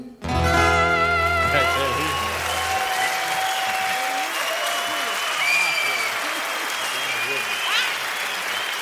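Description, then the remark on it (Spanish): Loud, sustained applause from a large audience for a singer, rising right after a final sustained musical chord fades, with a few faint whistles and cheers rising above the clapping. “Ese aplauso que se le debe a …, bien fuerte ahí.”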